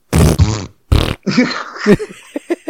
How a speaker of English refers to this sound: I mean, I don't know. It's not. I wish these are the times I wish we had like a fart button we could push. I would just say culling too. I need a fart button.